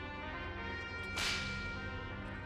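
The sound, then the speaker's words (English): A single sharp whip crack snaps out midway, bright, over a steady droning musical background that continues throughout, as a whip is used to help someone climb up. “Tez is going to use the whip that has been on his belt the entire time to help himself climb up.”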